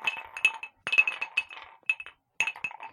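Ice cubes clink and rattle against a glass in short bright bursts, several clusters of sharp ringing taps separated by brief pauses, with no voices.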